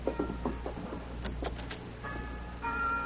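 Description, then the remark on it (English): A mission church bell rings faintly, its strokes leaving sustained, ringing tones that linger toward the end, with a few soft knocks and clatter earlier on. “That's what my ma wants to hear, the mission bell.”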